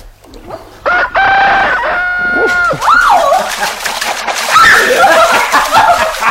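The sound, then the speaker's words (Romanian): A rooster crows loudly, with long drawn-out calls rising and falling, overlapping and repeating across the few seconds with no one speaking. “Nici cocoșii n-au cântat.”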